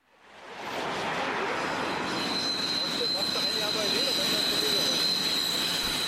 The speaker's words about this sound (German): Oben quietscht die S-Bahn, unten in der Grenzallee staunt sich der Verkehr vierspurig.